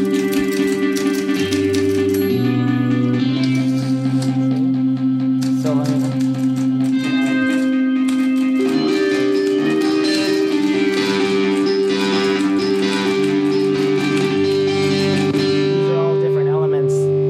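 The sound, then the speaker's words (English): Rapid typewriter clacks rattle over a distorted rock guitar holding low, sustained notes that shift pitch every few seconds, the whole mix loud and steady. “And then you can see when you add different elements to the mix, here's the typewriter, and here's like another rock guitar that's going on under it.”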